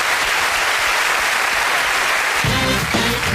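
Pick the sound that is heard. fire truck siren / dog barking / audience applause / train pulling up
audience applause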